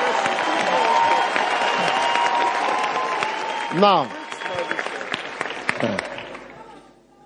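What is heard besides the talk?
audience clapping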